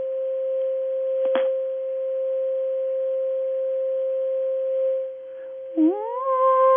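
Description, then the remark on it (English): A steady, exact 528 hertz pure tone played from a phone held to a computer hums without a break for several seconds. A single brief click comes early on, and a short rising, gliding tone enters near the end. “First of all, 528 hertz sounds about, well, actually not about, this is exactly 528 hertz right here.”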